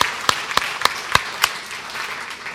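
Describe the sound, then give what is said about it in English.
Audience applause at a church: five sharp, evenly spaced claps stand out over a steady hiss of scattered clapping, then the loud claps stop and the softer wash of applause continues to the end. “We should clap.”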